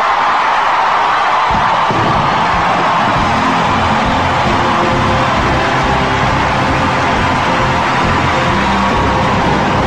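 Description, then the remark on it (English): A large Scientology crowd roars with sustained applause and cheering for David Miscavige after he announces the IRS's recognition of Scientology as tax-exempt, a dense, continuous wash of clapping and shouting that stays loud and steady throughout without any clear speech. “the crowd gave Miscavige an ovation that lasted more than 10 minutes, right?”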